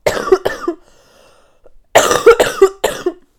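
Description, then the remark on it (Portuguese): Two harsh coughs, a short pause, then a burst of three more rapid, forceful coughs. No talking in between. “Eu preciso tossir e não me consigo concentrar no que estou a dizer. Eu vou bem tossir, desculpem.”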